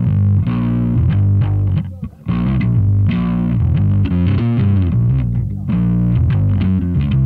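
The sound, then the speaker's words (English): Heavily fuzzed bass notes play loud and continuous, the tone thick and smeared so individual notes blur together, with one brief drop before the buzzing roar resumes. “Like bass fuzz when it just turns into a big, kind of fart and you can't distinguish a note.”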